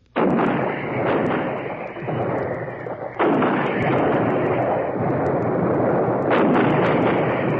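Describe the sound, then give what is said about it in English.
Heavy artillery fire from long rows of 155mm Long Tom guns laying down concentrated fire: sustained, dense booming and rumbling with sharp blasts breaking through, a strong new salvo at about three seconds, loud throughout with no voices. “These precision weapons laid down the most concentrated heavy artillery fire of this war.”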